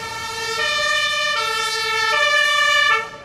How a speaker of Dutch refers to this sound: Groninger Brandweer komt ter plaatse met de hoogwerker en een schuimblusvoertuig. Een voertuig dat water kan winnen op grote afstand.